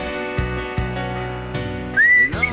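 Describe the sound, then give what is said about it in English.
Someone whistles a short melody over steady background music during a live radio broadcast on K-Praise, 1210 AM KPRZ, in San Diego, California, the shrill whistled notes rising and holding clearly for a moment near the end, fairly loud. “You know what I'm doing right there? I'm whistling on the radio.”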